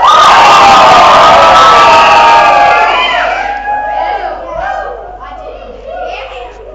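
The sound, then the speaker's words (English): An audience at FAT roars with shouts and cheers, many voices blending in a dense wall of sound that gradually thins into scattered whoops and calls, energetic. “I give you a cheer.”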